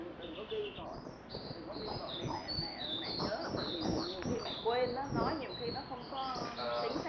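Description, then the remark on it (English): Birds chirp and coo outdoors, recorded on a tape recorder, their calls steady. Indistinct speech and busy background noise run underneath throughout. “For 4 years, I put the tape recorder here, and I hear the birds and the animals better than I hear his voice.”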